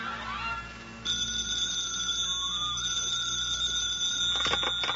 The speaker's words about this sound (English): The phone rings.